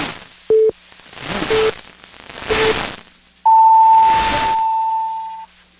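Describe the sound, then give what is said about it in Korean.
A KBS 1 Radio time signal marking 11 o'clock, broadcast on KBS Suncheon radio in South Korea: three short beeps about a second apart, the later two fainter, then a long, higher-pitched tone held for nearly two seconds, all over a hissy, static-filled background. “한국인의 중심 채널 KBS 제1라디오가 잠시 후 11시를 알려드립니다.”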